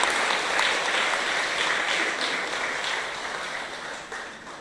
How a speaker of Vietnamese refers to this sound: Hãy dâng cao tràng vỗ tay để tán dương tất cả các thầy cô giáo nơi trên.